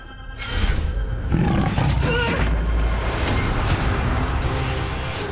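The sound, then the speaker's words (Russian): A bear roars loudly, a deep, rumbling sustained growl that starts with a sharp burst and carries on for several seconds without pause. “Медведь, я вижу его!”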